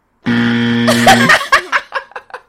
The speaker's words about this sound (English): I really like that noise now. I didn't like it at the beginning. It used to scare me. Is it the buzzer on the Xbox? No, it's like similar. Yeah, yeah, yeah. It's the one. But it probably used to scare me.